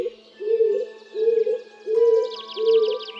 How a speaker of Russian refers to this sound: Мы, Чевостик, повстречали лесного голубя, клинтуха. Размерами он чуть поменьше своего городского родственника.